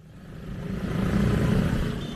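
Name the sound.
street traffic noise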